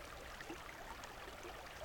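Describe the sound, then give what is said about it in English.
A soft, steady rush of flowing stream water, continuous and fairly quiet, with faint bubbling flickers and no voices. “And then, only water sound.”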